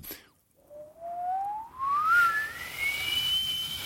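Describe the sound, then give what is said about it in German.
A honeyeater mimics a tea kettle: a single thin whistle that slides steadily upward in pitch over a few seconds, growing shriller and louder, with faint background hiss and no talking. “Teekesseln oder Rasenmähern.”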